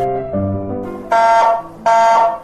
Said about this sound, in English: Our smoke alarm is wailing. Our turkey burnt as toast.